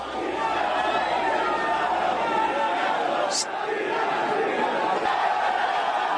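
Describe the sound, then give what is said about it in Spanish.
A dense crowd of Real Madrid fans cheers and shouts continuously as the team arrives at its hotel, a steady roar of many voices chanting and yelling players' names such as Cristiano, Modric and Ramos, staying loud throughout with a brief high whistle partway through. “Bueno, quiero que escuchen el sonido del matrimonio entre la afición y los jugadores del Madrid.”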